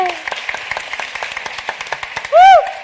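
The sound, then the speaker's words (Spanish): A crowd applauds with steady, dense clapping for a few seconds, and a loud rising-and-falling whistle or whoop cuts in near the end. “Sí, un aplauso.”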